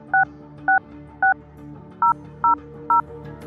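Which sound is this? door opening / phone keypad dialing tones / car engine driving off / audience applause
phone keypad dialing tones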